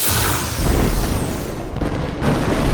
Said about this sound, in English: In a tremendous explosion, the 3 mines detonated before the orc could be dropped onto them.